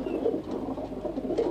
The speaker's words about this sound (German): Finn Fuchs vermisst das Taubengurren